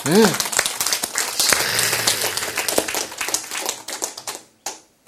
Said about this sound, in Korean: 크, 박수.